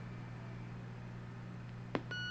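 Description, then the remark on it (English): A single short electronic beep sounds as a VictorReader Stream reading device powers on after its round power button is pressed and held for a few seconds, following a stretch of low steady hum, then a faint click and a continuing tonal whine. “So you want to press and hold that for a few seconds until you hear a beep.”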